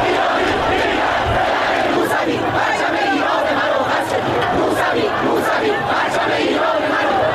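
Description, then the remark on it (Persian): A large protest crowd at the year-88 civil protests, with the silent march and 'Give me back my vote' cries, chants and shouts together in a loud, continuous roar, voices rising in rhythmic waves with sharp cries breaking through the dense wall of sound. “سال 88 سال اعتراض مدنی بود، راهپیمایی سکوت و فریاد رأی منو پس بده، سالی که به سال بلوغ سیاسی جامعه مشهور شد.”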